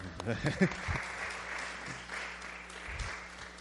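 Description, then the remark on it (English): An audience at a book reading with authors claps steadily for the books read that day, a dense wash of many hands sustained for a few seconds, with a brief burst of voice and some low thumps at the start. “Also, you guys give another round of applause for all the books that were read today.”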